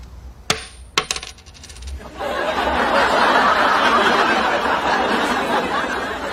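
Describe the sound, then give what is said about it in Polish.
A coin pings sharply as it's flipped in a coin toss to decide who goes first, then clinks down with a bright metallic ring that fades, followed by a burst of lively crowd chatter and laughter. “Now, the coin toss to see who goes first.”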